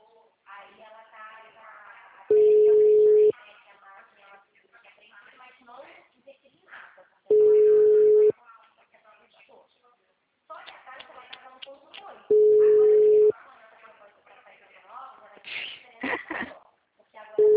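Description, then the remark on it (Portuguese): A telephone ringback tone repeats unanswered: four loud, steady low-pitched beeps, each about a second long and spaced roughly five seconds apart, with people talking in the gaps. “Gente, ninguém atende telefone, senhor.”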